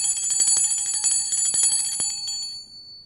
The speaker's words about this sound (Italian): Ecco che suona la campana della fine scuola.